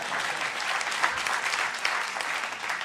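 Steady applause from an audience, a dense wash of many hands clapping at an even level for about three seconds, with no voices rising above it.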